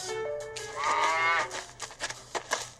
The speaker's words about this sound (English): Oh, the wonderful things Mr. Brown can do. He can go like a cow. He can go moo, moo. Mr. Brown can do it. How about you?